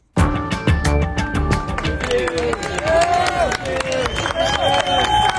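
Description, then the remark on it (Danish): A crowd claps for USAID staff in Washington, given fifteen minutes to collect their things from their workplace at 1300 Pennsylvania Avenue near the White House; sharp claps in a quick, even rhythm at first, then blending into a loud, continuous mix of applause, cheers and chattering voices. “Der blev klappet, da ansatte på USAID i Washington fik et kvarter til at hente deres ting på deres nu tidlige arbejdsplads på 1300 Pennsylvania Avenue, tæt på Det Hvide Hus.”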